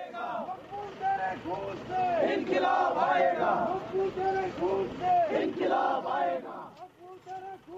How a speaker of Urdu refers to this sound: مظاہروں کو روکنے کے لیے جگہ جگہ ناکہ بندی کی گئی, اور لیکن لال چوک میں بعض سیاسی کارکنوں نے بھارت مخالف مظاہرے کیے.